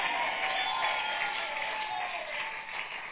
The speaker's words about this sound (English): Keep clapping. You can do better.